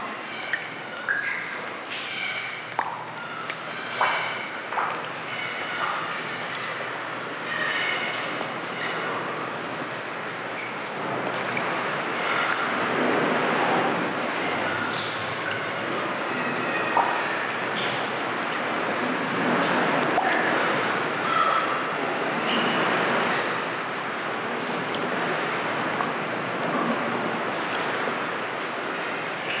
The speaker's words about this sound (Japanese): ここには波、水滴、ウミネコの3種類の音しかありません。